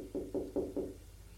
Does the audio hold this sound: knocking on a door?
yes